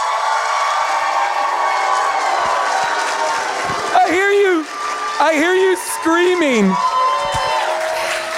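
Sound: audience screaming and cheering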